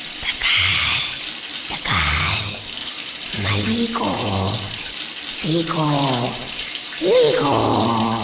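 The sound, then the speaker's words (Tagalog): Water from a shower runs steadily the whole time, a dense hiss, while a voice hums or murmurs intermittently beneath it. “Bawat minuto sa shower, 10 litro ang nagagamit.”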